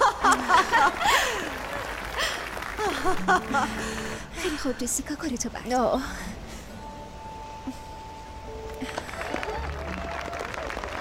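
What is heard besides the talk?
audience applause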